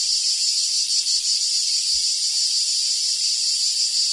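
A cicada buzzes in a steady, unbroken high-pitched drone for several seconds, fairly loud, with no voices or other sounds alongside it.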